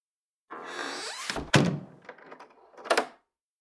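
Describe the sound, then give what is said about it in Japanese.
A door swings and shuts with a solid thunk, followed moments later by a short rattling clatter like a latch or handle settling. No voices. “その前に、ドア閉めちゃおっか。”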